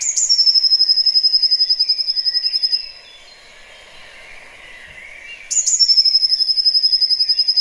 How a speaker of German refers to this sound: Für mich ist das so Frühling, weil das ist auch ein Vogel, der im Sommer nicht mehr singt. Ne? Also ja. Das ist wirklich ein typischer. Guck mal, jetzt kommen die Variationen.